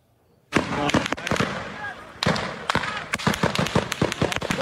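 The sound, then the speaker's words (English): Gunfire near the town of Deir Dibwan in the occupied West Bank, fired to disperse Palestinians confronting settlers: a rapid, irregular series of sharp cracking shots, some in quick clusters, ringing out loudly over a busy background of shouting voices. “In the latest violence, gunfire was heard near the town of Deir Dibwan to disperse Palestinians who confronted the settlers.”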